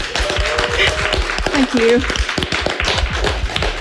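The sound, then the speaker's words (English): Audience applause: many hands clapping in a dense, steady patter for about four seconds, with a brief voice or cheer rising above it midway. “I think that deserves a round of applause, don't you?”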